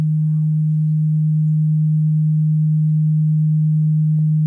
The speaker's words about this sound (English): Hold on one second. We got somebody humming in the background. There we go.